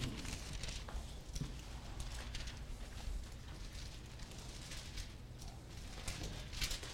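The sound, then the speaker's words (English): Many Bible pages being turned at once as listeners turn to Matthew chapter 10, a steady papery rustle and flutter with scattered crisp flicks over several seconds, with no one speaking. “Let's hear those pages turn, folks.”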